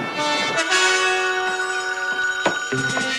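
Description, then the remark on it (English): General Bleeker's telephone bell rings continuously by his bed, a bright, metallic, sustained ring that fills the whole moment, with no voices present. “Now, General Bleeker answers the phone from bed.”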